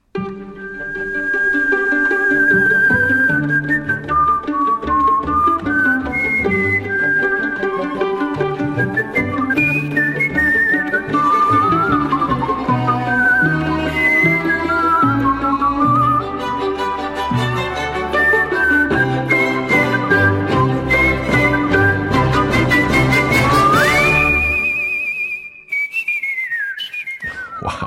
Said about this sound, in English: I just don't hear people whistling as much anymore in general, and definitely not in performance. You've, of course, got that amazing, the Whistling Caruso that you did from the Muppets movie back in 2011. I mean, just listen to this for a second.